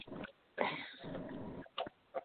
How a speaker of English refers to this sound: These cards are hard to shuffle. They're new, brand new.